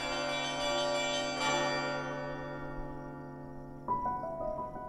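Church bells ring out in a rich, resonant peal, long harmonic tones overlapping and sustaining, with a fresh strike near the end adding brighter notes; no voices.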